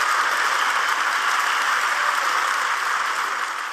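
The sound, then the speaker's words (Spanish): Loud, sustained applause from a large crowd of Merkel's party members after her speech, a dense steady wash of clapping lasting about one minute that continues without pause, with no voices standing out above it. “Tras su discurso, Merkel recibió un fuerte aplauso de los miembros de su partido, que duró cerca de 1 minuto.”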